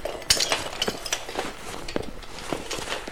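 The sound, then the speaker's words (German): Broken shards clink and scrape against each other as they are gathered, a scattered series of bright glassy chinks with no voices. “Schnell helft mir, die Scherben aufzusammeln.”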